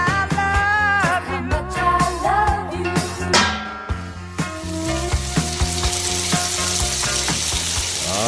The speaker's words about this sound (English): Yes, we know what that frying pan sound means. Time for the frying pan.